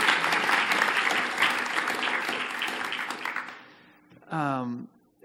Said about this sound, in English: Guys, why don't you give him a round of applause?